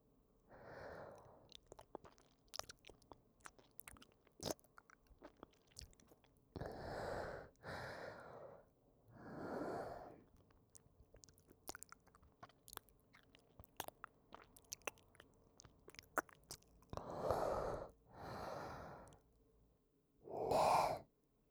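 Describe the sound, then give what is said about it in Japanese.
Wet, squelching mouth noises: irregular sticky clicks and smacks scattered throughout, broken up by several soft, breathy exhales. Quiet overall, with no talking. “それともこの口の中のくちゃくちゃした水音が気持ちいいの？”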